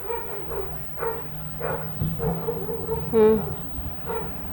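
A dog barks over and over in a fairly steady rhythm, moderately loud, with one sharper, louder bark toward the end and a low background murmur underneath.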